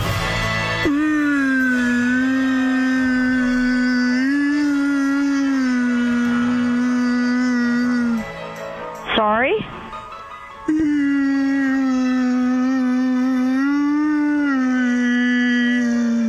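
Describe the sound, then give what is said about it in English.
A voice imitates a whale call as a message for a florist to write on a card, with long, wavering, moaning tones, breaking briefly for a quick rising swoop and a short spoken question before the droning call resumes, loud. “What did the whale say to the florist?”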